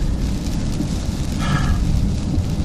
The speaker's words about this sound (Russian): Смотрите, как интересно, я вам покажу погоду. Дождик. У нас это называется шторм. Сторм, как они говорят.